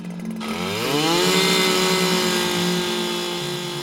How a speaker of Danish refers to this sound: Og her er en lille gruppe mænd i arbejdstøj, der står med noget, der ligner en gigantisk boremaskine. Og nu går de i gang med at bore ned på jorden.